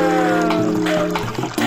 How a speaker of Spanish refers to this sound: Hoy el río suena, hoy el río canta. Agua, agua.